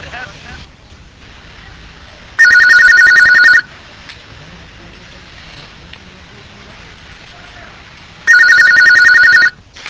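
A telephone rings twice, each ring a loud, steady electronic trill lasting about a second, separated by a long pause filled with faint background hiss and noise.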